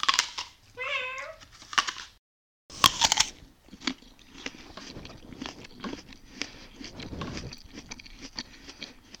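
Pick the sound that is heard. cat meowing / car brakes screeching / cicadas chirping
cat meowing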